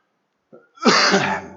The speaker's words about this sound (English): Excuse me for my cough, friends. I've got a bit of aggravated asthma.